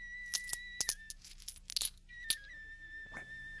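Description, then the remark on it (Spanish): Coins and jewels clink and jingle in a few bright, metallic bursts, fairly quiet, with a sustained ringing tone lingering between the clatters. “Pero antes de irte, déjame darte estas joyas y estas monedas.”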